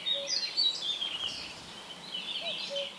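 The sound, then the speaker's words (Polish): A common cuckoo, having flown in and perched not far off, calls its low two-note cu-koo, faint beneath a busy chorus of high twittering birdsong, bobbing its tail in rhythm with the calls, with no one speaking. “Warto podążać za tym kukaniem i podejść kukułkę, bo tak śmiesznie podryguje ogonkiem w rytm tego kuku.”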